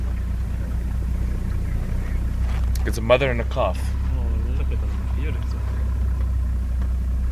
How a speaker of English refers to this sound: I'm going to drive a bit closer to them now, but I'm going to drive slowly